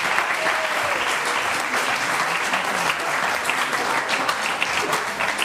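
Steady, dense applause for the Institut Puig i Ferreter of La Selva del Camp, many hands clapping continuously at an even loudness for several seconds, with no clear talking over it.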